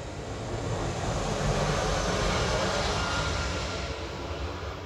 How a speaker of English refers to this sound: And here's a plane coming by my window.